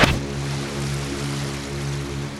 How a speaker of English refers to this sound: Where the hell am I? An ocean liner? What the hell is this place? Hello?